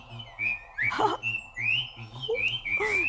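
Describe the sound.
A clear, high whistle, made by a big worm-like creature coiled around a twig of a dwarf Japanese apple plant in a garden, rises and falls in repeated tonal phrases, sliding between notes, with a low rhythmic pulsing underneath throughout. No one speaks.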